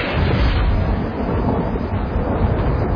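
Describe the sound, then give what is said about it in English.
A loud, close roll of thunder from a lightning bolt striking the earth nearby during a storm with wind and rain rumbles deep and continuous for the whole stretch, heavy in the low end with no break and no voices. “Suddenly, a lightning bolt fell from the sky, struck the earth nearby, knocking me off my feet.”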